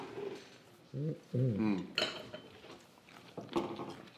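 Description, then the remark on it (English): Plates and cutlery clatter and scrape as salad is served, with sharp metallic clinks and a few brief voiced murmurs in between. “I'll give you some salad.”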